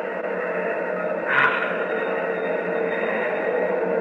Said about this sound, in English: Hear those rocket engines? Yes. Nearly 1,000,000 pounds of thrust. Oh. They're ripping Pegasus 4 loose from Earth's gravity.